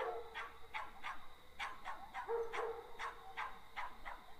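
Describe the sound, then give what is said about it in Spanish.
Many dogs bark repeatedly in short, overlapping bursts from all around, creating a steady chorus of yaps with no one speaking. “Y al quedar libre, oyó como por todas partes ladraban los perros.”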